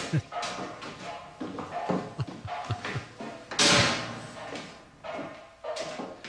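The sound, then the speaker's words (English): Irregular metallic bangs and clatters of the character Ruprecht banging a cooking pot in his room ring out in uneven bursts, with one louder crash midway and a murmur of voices underneath. “He's just banging a pot in his room.”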